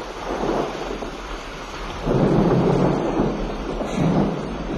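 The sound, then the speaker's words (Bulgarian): Heavy rain pours down steadily during a terrible storm while low thunder rumbles, swelling louder around the middle and again near the end. No voices, just the dense wash of the storm. “Добре, че дъждът се изливаше обилно, та изгаси дървото.”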